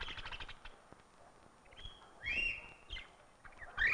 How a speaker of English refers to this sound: The clown of the parrot family, the scarlet macaw from the jungles of Central America.